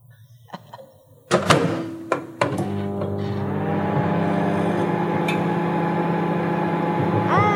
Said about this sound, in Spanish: ¡Ya sé! ¿Un microondas? Exactamente, muy bien, muy bien.